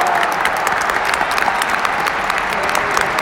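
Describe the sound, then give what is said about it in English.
A huge crowd in the Tokyo Dome roars and applauds continuously at a wrestling match after Jericho breaks a pin count, a dense wash of clapping and cheering that stays loud and steady throughout with no break. “Holy shit, the dome is rocking after Jericho broke that count.”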